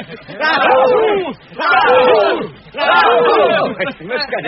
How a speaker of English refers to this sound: Yes, we've escaped, thanks to you. Well done, Mr. Baggins. A cheer for our burglar.